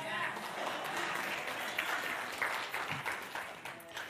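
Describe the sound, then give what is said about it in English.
A crowd applauds steadily for several seconds after a speaker recites scripture about salvation through Jesus Christ, a dense wash of many hands clapping at once, with faint voices and cheers mixed in under the sustained noise. “I know that you applaud because it's the scripture and it's true and it's what he said.”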